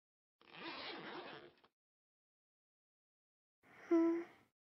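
A trouser zipper is pulled down in one steady, close-up rasping stroke lasting about a second. After a pause, a short breathy voiced sound follows.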